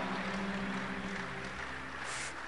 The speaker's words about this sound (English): Clap for him, clap for the wife, and God bless you so much.